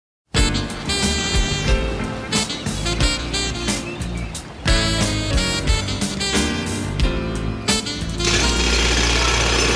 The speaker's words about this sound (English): They stopped the hammering, okay?